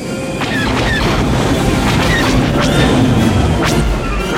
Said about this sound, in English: The cannons mounted on the heads of the Imperial walkers begin firing at the snow speeders.